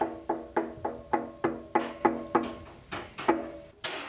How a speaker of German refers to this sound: Bei der Heizung, da oben ist ja immer so eine Oberfläche. Und da sind eben diese Rillen. Und wenn ich da drauf klopfe, und bei uns ist es auch eher locker, und da hört es sich irgendwie an wie so bei dem Schlagzeug, da ist doch immer dieses Goldene.